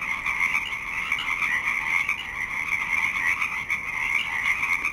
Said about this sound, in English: It's 3:30 a.m. The Pacific chorus frog song rises and falls with increasing gusts of wind.